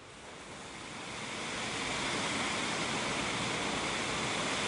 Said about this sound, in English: We're continuing to make our way down through the woods, and we've reached the beck again now.